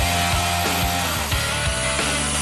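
A steady, loud power-tool whir of an industrial drill with a beater mixing soap made of lye, milk and base oils, with rhythmic sloshing pulses roughly every half second and no talking.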